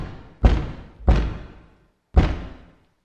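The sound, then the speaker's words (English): Three heavy knocks on a wooden door, two in quick succession and then a third after a short pause, each a loud, booming thud that rings out briefly. No one speaks. “And then came the knock. Hard and terrible. Digging at the wood of our door.”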